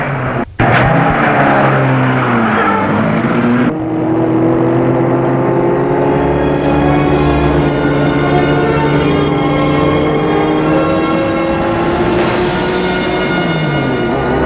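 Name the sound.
car driving away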